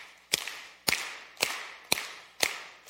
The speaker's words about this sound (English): Okay, you guys over here, everybody on this side, you guys are going to be the clappers, right? So we're going to clap on the one, the two, the three, and the four. Okay, ready? Let's clap.